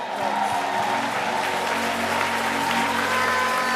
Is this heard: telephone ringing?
no